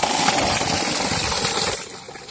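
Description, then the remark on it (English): A steady, loud rush of water gushes from a borewell pump, filling the whole moment with dense splashing noise that eases off slightly near the end, with no voices. “And you can see the borewell that we have put here. And it's giving water for the people.”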